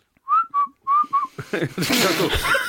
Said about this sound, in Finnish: Musta tuntuu, että sä osaat vihellyskieltä vaan niinku baaritarkoituksiin.